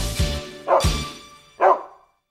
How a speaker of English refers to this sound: When he finally stood up, he barked and stretched his legs.